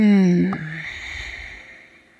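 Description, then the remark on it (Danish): A deep, audible breath during yoga practice: a full inhale, then a full, long, airy exhale that starts with a soft voiced sigh and gradually fades away, fairly loud. “Sidste fulde vejrtrækning. En hel indånding. En hel udånding.”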